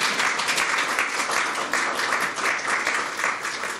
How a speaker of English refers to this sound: You can applaud that if you want. I can tell you'd like to.